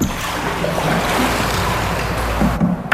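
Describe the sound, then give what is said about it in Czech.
Small rowboats carrying couples drift on about a metre of water in a dim, vaulted underground cistern with Gothic pointed arches in Ramla, with soft lapping and sloshing over a steady low hum of reverberant background noise, and no one talking. “Zamilované dvojice se tu plaví v přítmí na lodičkách.”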